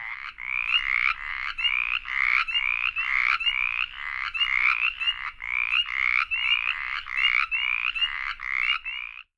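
Mountain chorus frogs and spring peepers, chorus frog species of Virginia, call together: a steady series of creaky, rasping trills, roughly two per second, loud, with the peepers' single notes mixed in. No voices.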